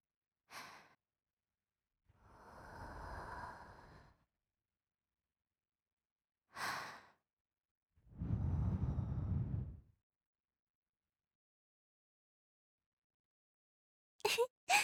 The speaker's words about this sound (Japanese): ほら、もっと風通しよくしないとダメだよ。我慢して、私の吐息を受け止めて。